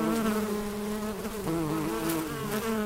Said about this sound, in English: Okay, so flowers hear buzzing bees.